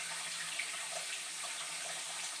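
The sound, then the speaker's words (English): Tap water runs steadily into a kitchen sink while it is left running to get the water hot, a continuous hissing splash that stays even throughout, with no voices. “Getting the water hot.”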